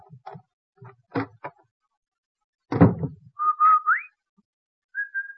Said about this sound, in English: The Rinso whistle is our way of telling the children we're home from work.